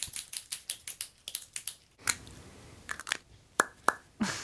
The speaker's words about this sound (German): Das war eine Füllerkappe auf und zu so ploppen lassen.